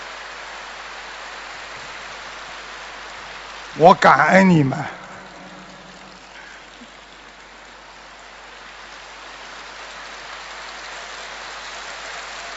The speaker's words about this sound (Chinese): 知道，你们要鼓掌，索性就鼓得响一点。